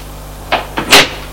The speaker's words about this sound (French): Elle ouvre la porte du salon.